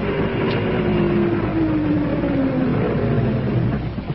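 A car engine rumbles loudly and steadily for a few seconds as the car approaches with its lights on in flat country, its droning hum drifting slightly in pitch over a wash of road noise, with no voices.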